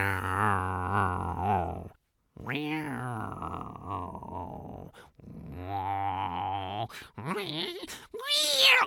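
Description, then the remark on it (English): A voice imitates a cat with a run of loud, drawn-out meows and yowls, some sliding down in pitch, others rising and wavering, with brief pauses between them. “He walked through the town, and there was a cat.”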